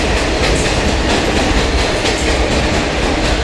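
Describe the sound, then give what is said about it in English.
A New York City subway train, a southbound 4 train in the Bronx, rumbles loudly along the tracks, a dense, steady roar with faint rhythmic clatter from the wheels passing over rail joints. Continuous, with no voices. “That's where passengers were forced to evacuate after the 3rd and 4th cars of a southbound 4 train suddenly detached.”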